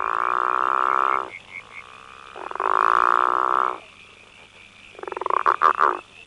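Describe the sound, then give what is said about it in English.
A male frog gives its mating call: two long, buzzy, droning trills, then a quicker burst of rapid pulsed croaks, over a faint steady insect-like hum. “When females have a choice between two males calling, they tend to select the one that calls at a lower frequency because in frogs, the frequency of a call is related to body size, so the bigger frogs tend to call lower.”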